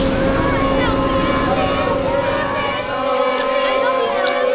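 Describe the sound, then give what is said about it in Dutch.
A bus full of fans arrives, its engine humming steadily and loudly, the low drone continuous throughout, while an excited crowd chatters and murmurs in the background. “Ja, een hele bus vol fans, Albert.”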